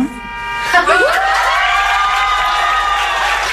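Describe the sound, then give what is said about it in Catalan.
A small group of about 25 people at a gathering cheers and applauds, with excited high voices whooping over steady clapping that swells after the first second and carries on evenly. “S'aplaudeixen, s'abracen, s'estimen...”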